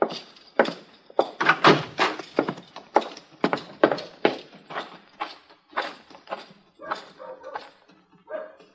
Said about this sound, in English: Ellen Henry's riding up the street, leading my horse.